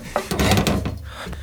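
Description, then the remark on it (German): A wooden wardrobe door is pulled open again, a brief clunk followed by a rough, rattling scrape of wood that lasts about a second, with no voices. “mach die Tür wieder auf.”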